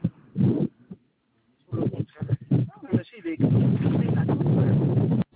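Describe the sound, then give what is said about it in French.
Strong wind buffets a phone microphone during a phone call in loud, uneven gusts of low rumbling thumps, settling into a sustained, harsh roar of wind noise. “Je ne vous entends pas très bien, il y a beaucoup de vent.”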